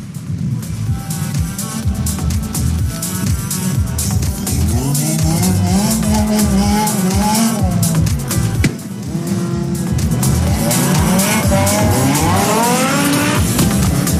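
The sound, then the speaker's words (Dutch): Loud racing car engines roar and rev continuously at the Dutch rodeo driving championship, with rising and falling pitch sweeps as cars accelerate past, mixed with sharp tire squeals and skids; the car with start number 660 is driven by Dave Gielis. No voices. “En met startnummer 660 is het Nederlands kampioen rodeo rijden. Die auto wordt bestuurd door Dave Gielis.”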